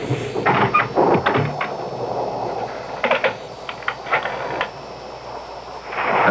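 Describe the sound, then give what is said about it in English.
Steady, hissing rain with gusts of wind that swell and fade, punctuated by brief rattling bursts against a window. No one speaks. “Hey, boy, look at the rain and the wind against the window.”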